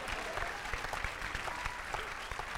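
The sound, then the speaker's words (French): Steady audience applause for a story about a battery in the urethra, a dense crackle of many hands clapping at a fairly even level throughout, with no pause and no clear voices rising above it. “On peut applaudir la pile dans l'urètre, ouais.”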